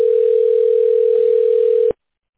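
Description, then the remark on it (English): A single steady electronic telephone ring tone hums for about two seconds during a call transfer, at an even, fairly loud level, then cuts off abruptly into silence. No one speaks. “Let me get them on the line.”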